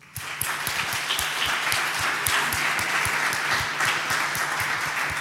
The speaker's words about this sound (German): Genau, ein Applaus für das POC, das Phone Operation Center.